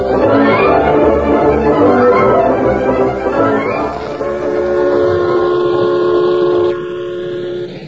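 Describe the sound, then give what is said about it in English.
A snorting, wood-burning steam train from Colfax clatters loudly and continuously along the rails past the last spur of the Blue Sage Hills toward windswept prairie, and partway through a long steady whistle sounds over the rattling before fading slightly. “The train from Colfax, drawn by its snorting, wood-burning engine, rattled past the last spur of the Blue Sage Hills and settled down to the final 30 miles of windswept prairie that lay between it and its destination, River Junction.”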